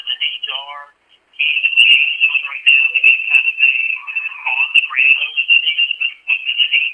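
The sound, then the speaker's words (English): A phone alert tone: a shrill, steady electronic tone that warbles and chirps continuously for several seconds after a brief rising trill, fairly loud, with faint lower garbled sounds beneath it. “What that phone said. Wait a minute. That's this one.”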